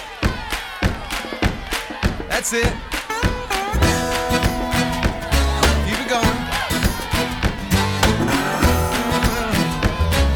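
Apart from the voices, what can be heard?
group clapping hands together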